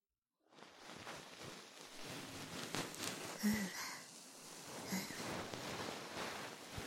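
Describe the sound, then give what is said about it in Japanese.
Soft, fluffy brushing from the fluff of a bonten ear-cleaner sweeps against the ear, a continuous rustle and swish that rises and falls gently for several seconds with no voice. “それじゃ、最後は梵天でふわふわしてやろう。”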